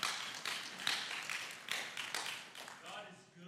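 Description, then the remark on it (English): An audience claps for Jesus as their Savior, a dense run of sharp, overlapping hand claps that holds steady for a few seconds before thinning out slightly at the end. “Yes, we should clap for something like that.”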